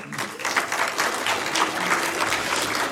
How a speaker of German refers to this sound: Ja, ihr dürft klatschen, gerne.